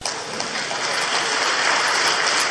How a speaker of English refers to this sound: The president was applauded by an Islamic Congress in Yogyakarta when he reiterated his refusal to grant clemency for drug criminals.